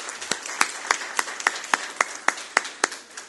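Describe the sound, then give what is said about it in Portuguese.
A short burst of applause in the plenary of a Câmara Municipal (municipal council chamber), from the councillors and others present, for the Seleção Evangélica de Futsal de Santa Maria de Jetibá team: a dozen or so sharp, evenly spaced claps in a steady rhythm, fairly loud, with no voices. “eu peço aos colegas vereadores e todos aqui presentes no plenário da Câmara Municipal uma salva de palmas para o time da Seleção Evangélica de Futsal de Santa Maria de Jetibá.”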